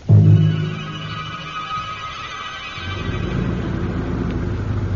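car engine

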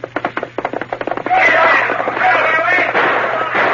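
gunshots

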